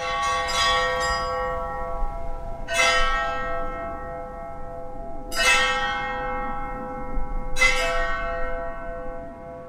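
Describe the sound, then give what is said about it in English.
Makeshift bells made from welding tanks with their bottoms cut off and hung up at a small church are struck with ball-peen hammers four times at a slow, steady pace. Each clang rings out with a long, shimmering metallic sustain that overlaps the next, loud, with no talking. “So we cut the bottom off the welding tanks, hung them up, and then we beat them with ball-peen hammers.”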